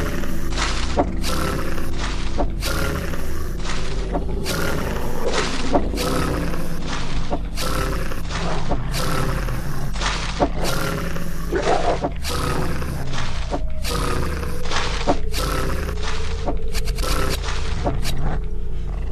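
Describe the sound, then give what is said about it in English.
Video game battle against a wolf in a misty area: repeated snarling growls and roars mixed with sharp, booming impact hits landing every second or so, loud, with a steady low rumble underneath. “You have reached misty area 2. Wolf. Yeah, we'll fight you. Battle begins.”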